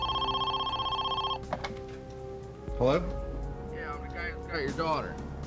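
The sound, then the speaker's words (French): A telephone rings with a steady electronic tone for just over a second, then cuts off with a click; muffled voices follow, like someone answering on a line. “Peu de temps avant 13 heures, le téléphone sonna de nouveau.”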